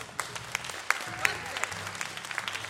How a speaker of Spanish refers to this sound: Yo sé que ese aplauso nace así y digo,